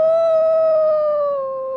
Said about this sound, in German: Ich höre die Wölfe schon heulen.